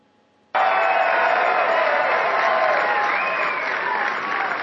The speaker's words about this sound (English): Cheer, you chumps. No, really, cheer.